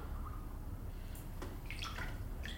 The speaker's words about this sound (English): And now, back in my hotel room, I've managed to create my own flotation tank. That is to say, a salty bath with the lights out, which I'm in right now. It's like being in the Dead Sea, but I'm not surrounded by those annoying people.